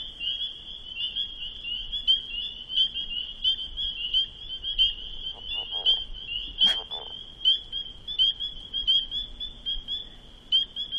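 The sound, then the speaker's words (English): A leopard frog gives a brief, muffled, gurgling croak partway through, as if from underwater, over a steady high-pitched chorus of peeping frogs that runs the whole time. “Was a leopard frog again. Sounds like it may have been swimming underwater.”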